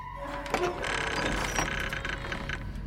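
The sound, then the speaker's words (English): A key turns in a lock with a run of metallic clicks and ratcheting scrapes over a steady low hum, with a sharper click near the middle. “Still in the lock, the key turns by itself.”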